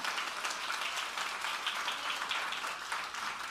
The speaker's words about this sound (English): Come on, give Jesus a clap offering.